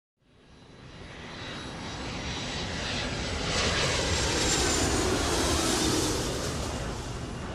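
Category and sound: vehicle, airplane flying overhead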